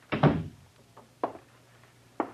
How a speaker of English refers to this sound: Close the door.